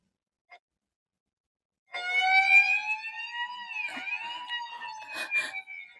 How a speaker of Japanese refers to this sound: これ、サイレン。 こっちに向かってくる。